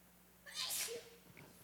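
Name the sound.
sneeze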